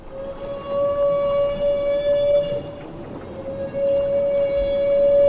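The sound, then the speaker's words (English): A long, steady trumpeting tone from a feeding humpback whale, holding one loud pitch with rich overtones, briefly breaking and resuming over a rumbling underwater background. “Humpback whales make this trumpet sound only when feeding, but why they do it has long been a mystery.”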